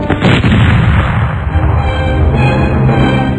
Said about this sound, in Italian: Una fragorosa esplosione lo fece saltare.